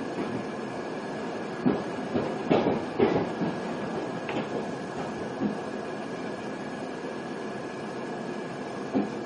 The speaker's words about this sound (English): The next station is Northfield. This train will terminate here.